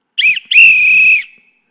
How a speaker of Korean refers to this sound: 자, 강대상에 두 번째 호루라기를 불죠.